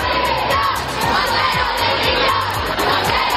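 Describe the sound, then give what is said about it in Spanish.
A large protest crowd at a march in central Madrid chants and shouts calls for the resignation of minister Irene Montero in a dense, continuous roar, voices rising and falling in rhythmic waves, loud with no single speaker standing out. “En esa marcha se corearon gritos de dimisión contra otra ministra del bando podemita, Irene Montero, en plena polémica por esa ley del solo sí es sí.”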